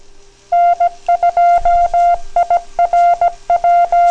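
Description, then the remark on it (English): A rapid sequence of telephone touch-tone dialing beeps, about a dozen short bright tones in quick irregular rhythm, loud and close with no one talking. “It sounds good to me, but certain times when I hear it on playback and Audacity, it sounds like I don't have pure tones.”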